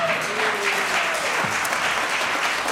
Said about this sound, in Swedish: Jag kan stå och tala om varför publiken applåderade. Var att klockan står på noll,